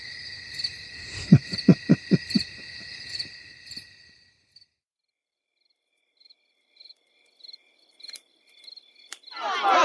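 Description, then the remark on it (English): A hoot owl hoots several times in a quick low series in the woods, over a steady bed of chirping crickets and insects in a quiet night setting, then the insects carry on alone. “You hear that? That's a hoot owl.”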